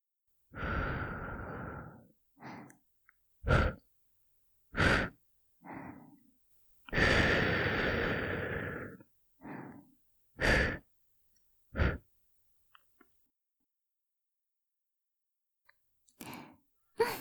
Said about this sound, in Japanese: 最後のおまけに息吹きかけちゃうぞ。お姉さん巫女の吐息成分で君の汚れを払っちゃう。覚悟するんだぞ。